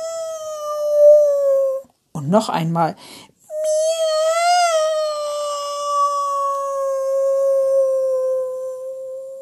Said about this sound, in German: Die gefleckte Katze sitzt auf dem Baum und schaut herunter zu Frau Usebuse. Die gefleckte Katze öffnet ihr Maul. Miau!